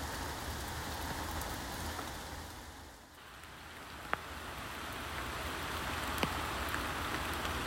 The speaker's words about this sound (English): Whilst I've been venturing out here in the pouring rain.